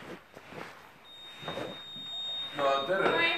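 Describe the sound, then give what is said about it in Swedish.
A thin, high-pitched electronic signal tone sounds steadily inside a building, the former refugee accommodation now called Siram Hostel at Institutvägen 21 in Evidskog, faint but persistent, while people talk and murmur over it; four men sit around a table. “När jag kommer in i byggnaden ljuder en pipig signal av något slag, och kring ett bord sitter 4 män, och i en soffa vid bordet ligger en kvinna under ett täcke.”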